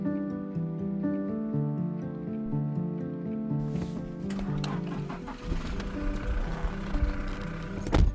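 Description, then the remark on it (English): A car engine drones with a steady, tonal hum, then rough rattling and bumping noise joins in as the vehicle jolts along a dusty dirt road with huge holes, leading deep into the forest, loud throughout. “It was a long car journey, 7 hours.”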